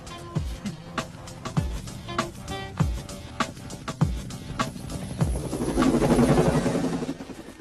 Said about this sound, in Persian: قرار شد یه هلیکوپتر دیگه بفرستن دنبال ما.